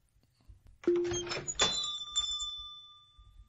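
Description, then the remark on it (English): A shop door bumps and rattles open, then a small shop bell gives one bright, clear ring that shimmers and fades slowly over a couple of seconds as the shop door is opened. “You hear the sound of a bell as you open the shop door.”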